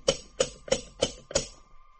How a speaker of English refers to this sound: There was no doorbell, just a bronze coat of arms that served as a door knocker. I knocked.